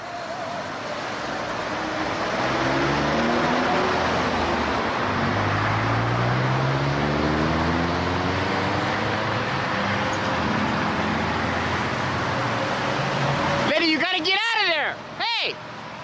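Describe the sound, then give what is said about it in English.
Steady roar of road traffic in traffic lanes with engine tones rising and falling as cars pass, then brief loud shouting warning a woman standing in the road that she will be hit. “You're gonna get hit by a car!”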